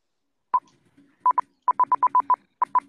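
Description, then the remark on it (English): A string of short electronic beeps from a soundboard at one steady mid-high pitch, about eleven pulses in uneven clusters with brief gaps, like tapped-out Morse code; no voices, just the tones over near silence. “You know, that does sound like Morse code.”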